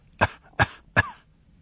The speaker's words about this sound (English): Just as they were leaving, they heard the cough once more. This time, there were three in succession.